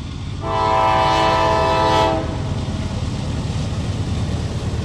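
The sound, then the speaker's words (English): A passing steam train gives one long, loud horn blast of about a second and a half, over a steady low rumble of rolling wheels that carries on after the horn stops. “Flanagan was an engineer on the westbound Fast Flying Virginian, a CNO train that wrecked in 1907.”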